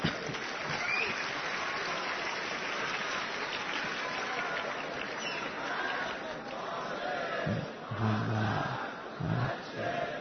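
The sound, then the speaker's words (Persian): A large audience claps steadily and loudly while voices join in a collective chant of salawat, the crowd noise dense and continuous throughout, with the chanting growing more prominent toward the end. “نه این بحث دست زدن و صلوات فرستادن تبدیل نشه به یک نمیدونم مسابقه و فلان چیز.”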